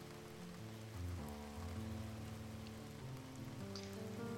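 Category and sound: nature, rain falling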